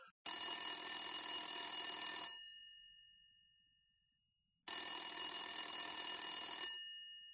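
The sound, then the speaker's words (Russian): A telephone bell rings twice, each burst about two seconds of loud metallic trilling followed by a fading ring-out and a pause, with no voices present. “Сначала позвонил Соне Корлеоне, узнал телефон Нины Валенти, потом позвонил Нина.”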